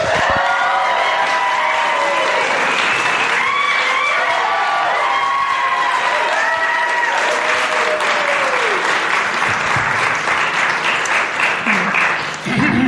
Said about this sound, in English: Please join me in silencing your phones and giving a round of applause as I welcome to the stage